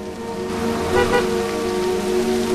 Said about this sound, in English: As she drives along, her wipers fail to keep the windscreen free of the relentless rain sheet.